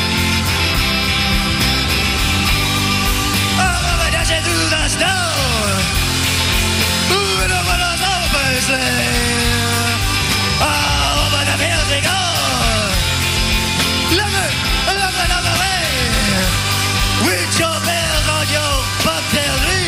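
A loud live rock band plays a dense, continuous full-band mix while a raw, strained lead vocal shouts and wails over it in sliding, hoarse phrases.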